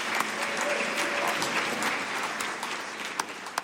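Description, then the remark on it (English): A crowd breaks into sustained applause after a baptism, dense and steady clapping filling the space for several seconds, with a few sharper claps standing out near the end. “Yeah, you can definitely clap for that.”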